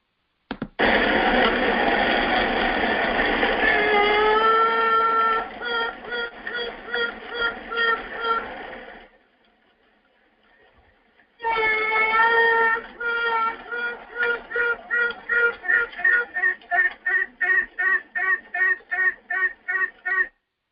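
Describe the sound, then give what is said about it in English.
Honeybees buzzing inside a hive in a bee yard at night, heard with an ear to the hive: a loud, dense drone with steady tones that breaks into rapid rhythmic pulses, a distinct song like piping and quacking, pauses briefly, then returns with a quick, even pulsing. “You can hear the buzzing around, and then that very distinct song.”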